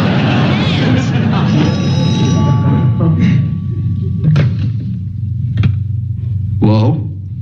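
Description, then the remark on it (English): A telephone rings with a bright, sustained electronic tone, partly buried under a loud, dense wash of background noise and voices, with a few dull thumps near the end. “Answer the phone.”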